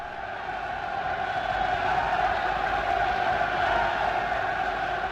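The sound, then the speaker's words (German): A large crowd applauds and cheers at Hitler's annual speech in the Bürgerbräukeller in Munich, a Nazi propaganda event, before he begins speaking. The steady, dense roar holds at an even loudness for about five seconds, with no individual voices standing out. “Hitler begann damals nach großem Beifall und nach einer langen Pause, so wie es seine rhetorische Methode war, zunächst extrem leise, langsam und scheinbar bedeutungsschwer.”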